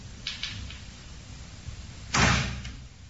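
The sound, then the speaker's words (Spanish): A door, with no draught present, swings open by itself, creaking or scraping faintly a few times, then a loud, broad bang hits as it slams, ringing briefly before fading into a low background rumble. “Y bueno, de repente una de las puertas empezó a abrirse ya y pegó un castañazo tremendo.”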